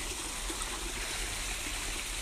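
Water trickles and runs in a steady, continuous hiss-like flow, even in loudness throughout, with no individual drips standing out and no voices.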